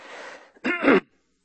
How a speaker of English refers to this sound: Excuse me, I hate to do that to you. I should turn this off when I have to cough. I got a tickle in my throat.